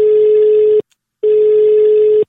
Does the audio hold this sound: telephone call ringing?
yes